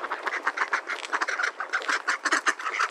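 A flock of ducks quacks continuously, with rapid overlapping nasal calls tumbling over one another at a steady, loud level for the whole stretch, with no talking.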